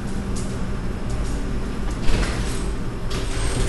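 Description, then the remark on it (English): Double doors slide open with a soft mechanical whoosh over steady low background rumble, a brief bump near the middle and a faint high hiss as they move. “Some double doors here.”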